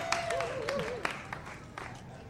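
Scattered, uneven, sharp hand claps from an audience at a program with singers, with a thin wavering whistle-like tone early on and a low crowd murmur underneath.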